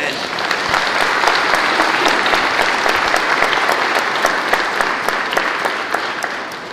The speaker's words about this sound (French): C'est tout autre, c'est Jésus-Christ, mort et ressuscité. Nous pouvons l'applaudir.